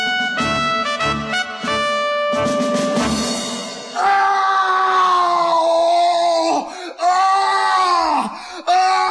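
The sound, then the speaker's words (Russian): A man screams in pain early in the morning, his thumb caught in a mousetrap. Short, broken cries break into long, loud, drawn-out howls that sag in pitch. The agonized wailing is alone, with no talking. “Когда было уже совсем светло, его разбудил ужасный крик.”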